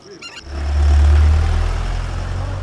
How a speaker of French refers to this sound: Une Renault Kangoo passe.